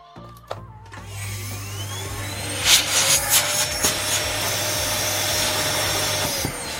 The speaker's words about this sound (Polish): No właśnie, odkurzanka pokazała, że wszystko działa, no i odkurzacz chciał ją wciągnąć.